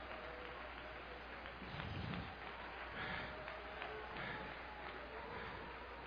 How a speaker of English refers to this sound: Somebody clap your hands for the Lord tonight.